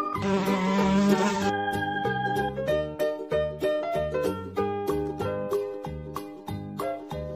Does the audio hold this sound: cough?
no